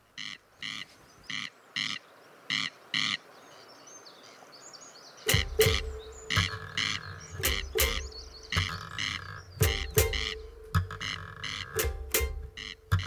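A corncrake gives its dry, rasping double call over and over in a steady rhythm, loud against quiet. After about five seconds, music with strong plucked or struck notes begins over it.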